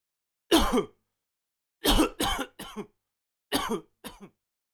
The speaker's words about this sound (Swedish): Det gör ont. Ja, det förstår jag. Men tror att du kan hosta en gång till?